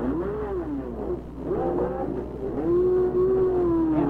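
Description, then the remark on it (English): A race car, fueled up after a mid-race pit stop, accelerates out of the pits back onto the track, its engine revving with rising, sweeping pitch, pulling away loudly and steadily with no talking over it. “Fueled up after his mid-race pit stop, heads for the track”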